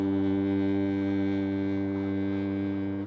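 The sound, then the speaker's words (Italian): A ship's siren blares in one long, steady, deep blast as the ship departs from the mainland, its rich stack of low harmonics holding loud and unbroken for the whole clip with no voices. “Sì, il suono di queste sirene significa per me il distacco definitivo da tutto e per sempre.”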